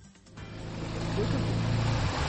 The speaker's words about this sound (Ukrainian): Світанок у селі Пухівка. Ледь чути гуркіт двигуна на воді, хоча він потужний. А ось і човен, яким керують двоє молодиків.